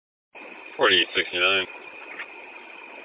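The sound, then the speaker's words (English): The engine of a bus for Clinton, just started by its driver, idles with a steady, low rumble throughout, heard muffled and narrow as if over a radio, while a voice briefly speaks over it. “Hey, I got the bus going.”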